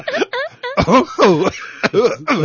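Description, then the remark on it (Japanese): A man's voice does an on-the-spot impression of a pigeon that keeps coughing: a loud run of short throaty coos broken by hacking bursts, about seven quick vocal bursts in a row. “これが名物や、お前、咳込む鳩。”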